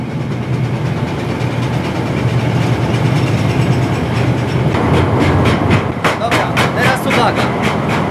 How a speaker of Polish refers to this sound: Musimy zachować tutaj szczególną ostrożność, bo będziemy przechodzili obok kolejki z materiałem. Pod żadnym pozorem nie wchodzimy pod ten materiał, tylko przechodzimy z boku. Maszynista nie ruszy, dopóki my nie przejdziemy na drugi koniec zestawu.